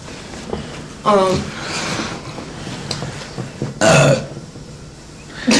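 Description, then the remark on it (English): A person lets out two loud burps, a longer rumbling one and then a sharper second after a short pause, with faint room noise between them. “Dude, we're gonna do clips of you burping.”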